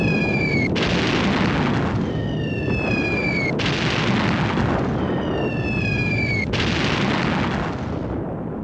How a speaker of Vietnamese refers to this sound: Tiếng pháo của địch vẫn còn tiếp tục nổ dồn dập sau lưng chúng tôi, dồn dập và đều đặn, nhưng không còn hải hùng kinh khủng nữa.